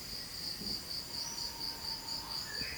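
Insects chirp steadily in a jungle, a continuous high-pitched trilling that pulses evenly throughout, with faint whistling tones drifting in the background and no voices.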